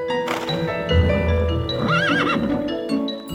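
A horse whinnies loudly, its shrill, wavering neigh rising and falling, while hooves clip-clop beneath it amid a busy, continuous background.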